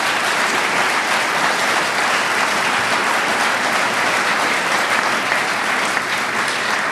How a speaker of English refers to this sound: So let's give all three of them a big hand of applause for making this happen.